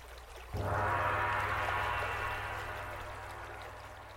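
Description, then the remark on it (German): A dense frog pond chorus of buzzing and croaking switches on abruptly and holds as a loud, steady wall of sound, easing off slightly toward the end. No one speaks. “Wow, wie es hier summt und quakt.”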